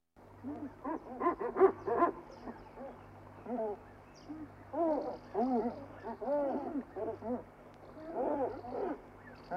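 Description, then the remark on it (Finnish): A dense chorus of common guillemot calls, deep growling moans overlapping in irregular bursts, some louder and some softer, over a steady low rumble. “tutustumme viikon luontoääneen. Etelän Kiisla on taitava sukeltaja, joka kalastaa ja haisee.”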